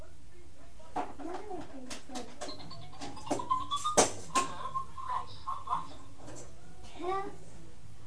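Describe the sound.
Soft cooing bird calls play from a phone in short repeated bursts, fairly quiet and a little thin, with a young child's babbling voice mixed in.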